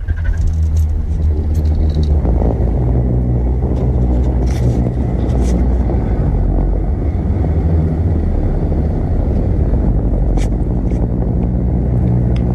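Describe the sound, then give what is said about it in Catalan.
A deep, steady booming roar of the singing sand dunes of Namibia, in an African desert, produced when wind sets off sand slides: a loud low drone with humming harmonic tones that holds unbroken for the whole stretch, with faint crackly hiss above it. “Mira, aquest brum són les dunes rugents de Namíbia.”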